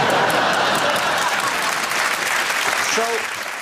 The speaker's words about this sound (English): The reason the audience is clapping is not just for the impression, but because saying who he's doing is part of the Rob bit.